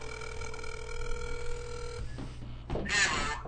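A telephone rings through a speakerphone as a call is placed to a longtime employee of Bill Brady, a steady electronic tone lasting about two seconds, followed by a brief click and a burst of line noise. No one speaks.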